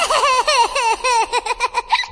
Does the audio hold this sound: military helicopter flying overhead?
no